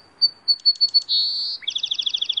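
A bird sings clearly in spring: a few thin high notes, a sustained whistled tone, then a rapid run of repeated chirps, with no voices.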